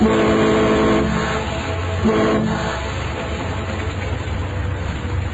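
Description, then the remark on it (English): A boat horn blares in two long, loud blasts, then cuts off, leaving a steady engine rumble and background noise. “I leaned on the horn.”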